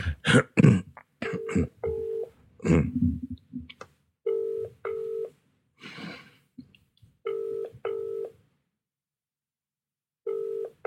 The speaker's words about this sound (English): It's ringing a long time without an answer phone. I think, actually, they're not in.